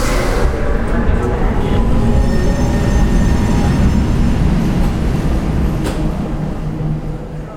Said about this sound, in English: Down to the subway. I hop the turnstiles. Nobody gives a shit.